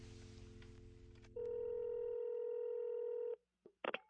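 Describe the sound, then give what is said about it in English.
A telephone call being placed: a low, buzzing hum gives way to a loud, steady electronic phone tone lasting about two seconds, then a couple of quick, sharp dialing beeps. No one speaks. “he said he had to go home to actually take the call, which may have sounded like this.”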